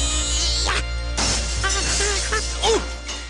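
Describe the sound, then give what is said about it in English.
A glass patio door in a video game smashes in a sudden, loud crash, and bright shards clatter and tinkle afterward while some brief vocal sounds rise and fall over the debris. “What do you want to do to glass patio door...”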